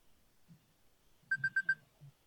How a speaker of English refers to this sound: That's my 4-minute timer.